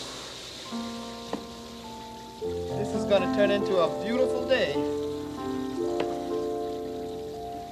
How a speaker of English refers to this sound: I'll put some more water in here.